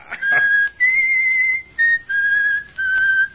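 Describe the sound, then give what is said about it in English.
A person whistles a short tune in clear, sustained pure notes, stepping between pitches in several phrases with brief gaps, fairly loud with no talking. “Stop that infernal whistling”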